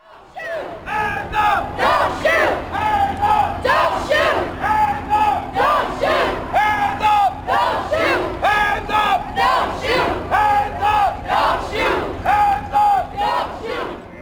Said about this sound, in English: Here is an excerpt of protesters blocking the Main Street Bridge.